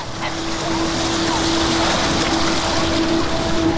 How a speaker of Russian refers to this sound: Сколько воды! Я бы хотела поплавать. Мне так нравится, что вода поднимается сюда. Как будто она злится.